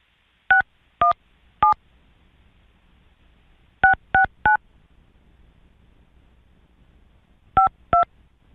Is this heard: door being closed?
no